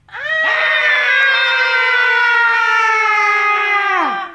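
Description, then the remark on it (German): A long, ghostly scream-like howl from ghosts rings out loudly for about four seconds, holding a steady high pitch before sliding downward and cutting off. “Sie legen sich noch mehr ins Zeug. Sie schreien und heulen.”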